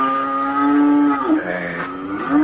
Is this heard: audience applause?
no